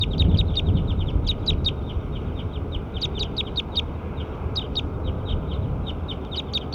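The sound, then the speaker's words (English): Bird number 7 calls with a rapid, steady series of short, high-pitched chirps that continue throughout, over a constant low rumbling background noise. “Pointed bird 7.”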